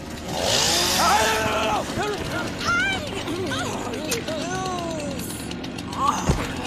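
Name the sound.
chainsaw running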